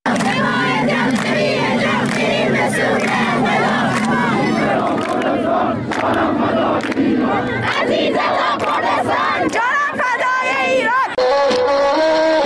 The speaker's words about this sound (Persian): اینجا در مراسم 40مش در ایزه مردم شعارهای ضد حکومتی سر دادند.